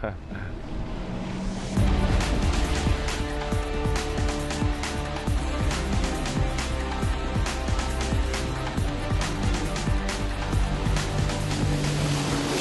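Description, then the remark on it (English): A jet ski engine drones steadily on a lake while water splashes and slaps around it, the motor growling louder after a couple of seconds and staying strong throughout. “You get to go, you know, to his lake house and spend time right there on the water and in the jet skis and things such as that.”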